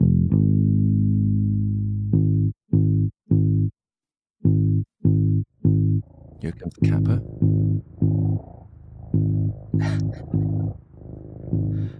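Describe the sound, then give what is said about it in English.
A cat named Cusky purrs in low, buzzing, steady rhythmic pulses at about 50 hertz alongside a sustained deep bass guitar note of around 50 hertz, with a voice briefly speaking over the later part. “So I think we got a clip of that where you hear Cusky purring and you can hear this note on the bass guitar as well.”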